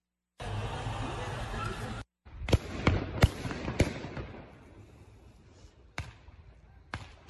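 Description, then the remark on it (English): Fireworks fired at surrounded police officers explode: a quick cluster of sharp, loud cracks, then two more spaced-out blasts, all over a rough, rumbling crowd noise. “See the cops there, they're being surrounded and attacked with fireworks, but other things as well.”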